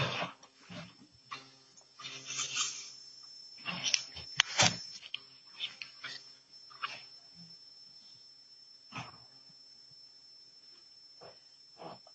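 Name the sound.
door being closed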